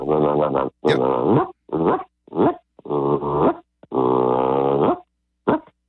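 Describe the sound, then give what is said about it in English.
Soft goose clucks and murmurs blown on a goose hunter's goose call: about eight buzzy, reedy bursts in an uneven rhythm, some clipped short and others drawn out, with no talking. “Now, I talk a lot into my call, but I'm doing a lot of the murmurs.”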